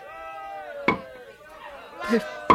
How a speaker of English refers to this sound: Then a soldier took the hammer and spike and started to drive the spike through Jesus' feet.